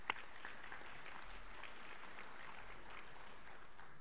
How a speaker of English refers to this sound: But again, a round of applause for Lucy.